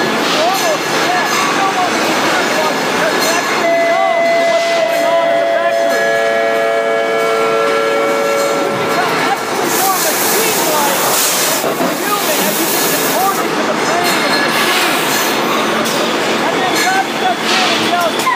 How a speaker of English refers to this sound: All the gears are moving. The steady hum of machinery whirring in motion. The din of hammering and hitting metal. Whistles are blowing. The bells actually be heard. The factory is operating at full capacity.